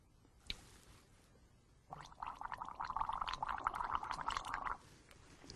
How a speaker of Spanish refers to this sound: Y entonces se toma esto y lo hace gárgara y lo traga.